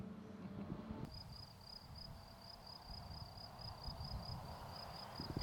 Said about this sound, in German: die Grillen zirpen, also wir haben einen herrlichen Tag. Der Wind geht ein bisschen